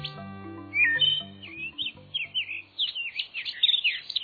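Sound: red-cockaded woodpecker calls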